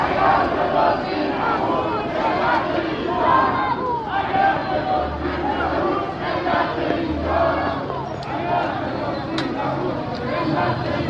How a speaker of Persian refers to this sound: همین سبب شد تا گروهی از سهامداران حقیقی در اعتراض به ریزش مداوم بورس و برباد رفتن سرمایه‌هایشان در مقابل ساختمان شرکت بورس و اوراق بهادار تجمع کرده و اعتراضشان را فریاد زنند. آنها دولت و شخص رئیس جمهوری را مسئول دانستند.